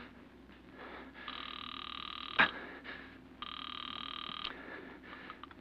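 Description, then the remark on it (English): A telephone rings twice over the line during a call to the police, two steady buzzing bursts about a second long with a pause between, and a sharp click sounds in the gap. No one speaks. “Then, terrified, you pick up the phone. Operator, get the police. Hurry.”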